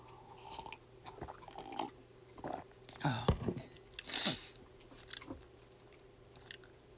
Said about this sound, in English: I'll take a sip of coffee here.